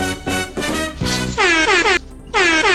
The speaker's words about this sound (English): Oh, yeah, air horn. Air horn. Remix. Air horn. Wah, wah, wah.